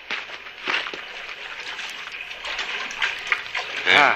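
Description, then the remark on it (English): Water splashes and churns in a steady, agitated wash for several seconds, ending with a louder surge and a brief strained vocal sound. “Your head in the water and you'll”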